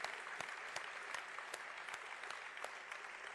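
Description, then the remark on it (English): A church audience applauds to recognize members of the armed services, in a steady, sustained wash of clapping, with a few sharper individual claps standing out at irregular moments throughout. “Can we give these guys and girls a round of applause?”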